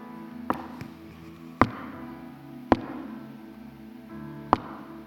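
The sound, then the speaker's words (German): Crutches tap on the floor in four sharp, irregular knocks spaced about a second apart, as the biblical figure Mephibosheth clumsily comes to find his place at the dinner table, over a low steady background hum with no voices. “Das Aufstocken von Krücken.”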